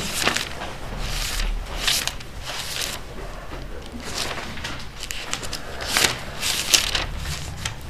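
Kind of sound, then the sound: household object, flipping through paper pages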